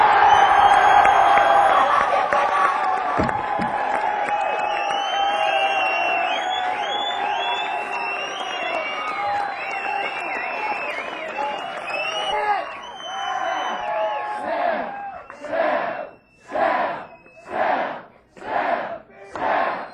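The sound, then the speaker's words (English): A big, sold-out concert crowd on the last night of a tour screams and cheers in a loud, dense roar, which breaks into rhythmic, pulsing shouts in unison near the end. “For the last night, my fucking tour, I appreciate you coming out and selling out of my dick, man! Let me hear you scream!”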